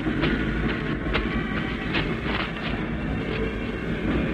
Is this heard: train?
yes